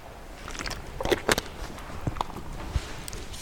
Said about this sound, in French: J'ai sorti ma bouteille, je vais en prendre une gorgée.